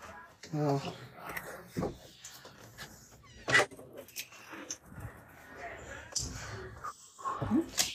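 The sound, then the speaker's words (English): A dog named Bell snuffles and snorts as it is let in from outside, with brief bumps and rustling movement while a person talks intermittently in the background. “Oh, sorry, I got to my dog outside.”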